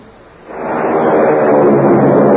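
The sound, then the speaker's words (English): A mighty American Airlines flagship airliner taking off: a dense, broad engine roar swells up after a quiet half-second start, then holds loud and steady without letting up. No one speaks. “Hear that? It's the sound of a mighty American Airlines flagship taking off.”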